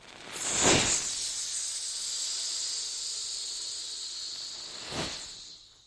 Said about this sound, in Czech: Pekelné pšouky.